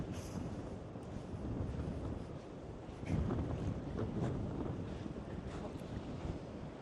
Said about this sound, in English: I'm walking down to the ocean. This is the Pacific Ocean, the Pacific coast. The water is clear in this little quiet bay.